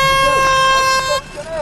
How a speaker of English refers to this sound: Okay, clean sweep, start swinging your arm of death and let fly your golf balls on the sound of the klaxon.